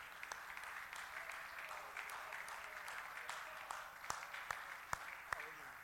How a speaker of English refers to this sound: Can we give God a hand clap of praise and thank him?